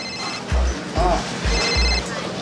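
A phone rings in short repeated bursts, a bright electronic ringtone sounding over a steady thumping low beat, fairly loud.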